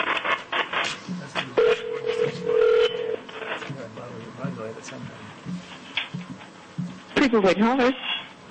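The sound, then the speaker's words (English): A phone call being placed from a Federal Election Commission meeting on Draft Advisory Opinion 2011-27, New Mexico Voices: a sustained tone, then a quick series of dialing beeps, followed by a ringing signal, with some voices and room noise underneath. “And at this time, we will see who we get on the phone.”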